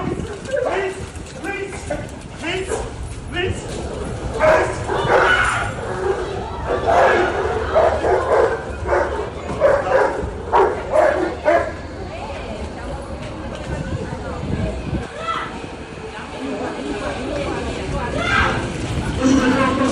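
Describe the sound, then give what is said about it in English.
A chaotic scuffle in a busy crowd: a woman's two large dogs, which she cannot control, snarl and bark in an attack while people shout and yell in alarm, the commotion loud and continuous throughout with dense background chatter. “But this femon should be at least charged with stupidity of bringing two rather large dogs that she obviously can't control into a busy place like this.”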